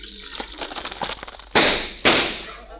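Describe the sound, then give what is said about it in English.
Hot cereal crackles as cream is poured over it, with a scatter of small, sharp snaps, then two loud, bursting pops land about half a second apart, each fading with a hissy crackle. “Oh, boy, hot cereal. Hey, does it crackle and pop?”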